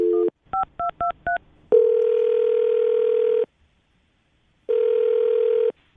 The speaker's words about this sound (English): All right, well, we're going to call Taryn right now and see if we can get her on the phone. Here we go.